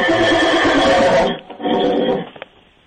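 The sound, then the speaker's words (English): A horse in an office building lets out a loud whinny, a long quavering call that breaks off, followed by a shorter second burst and a faint snort trailing away. “What, was that the horse?”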